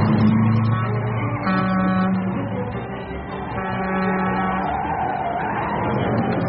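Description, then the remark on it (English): A car on a one-way street brakes and then reverses, its engine whining with steady tonal drones that shift in pitch, continuous throughout, with no one talking. “Apply the brakes. Now, put it in reverse.”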